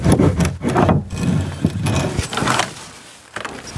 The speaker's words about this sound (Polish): Staramy się delikatnie, otwieramy te drzwi, wchodzimy.